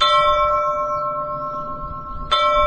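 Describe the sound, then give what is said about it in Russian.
A church bell is struck twice, about two seconds apart, each blow ringing out into a dull, hissing tone with steady humming overtones and a rough, noisy low end. “Есть колокола с глухим, я бы сказал, даже шипящим, как бы это странно ни звучало, но вот колокола порой дают самые удивительные тембры.”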